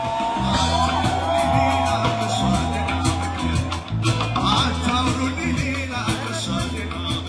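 A live band plays a steady, driving groove with pulsing bass and drums while an ecstatic young crowd shouts and cheers loudly throughout, at the Acacia Jazz Festival in Addis Ababa, Ethiopia, in February 2014.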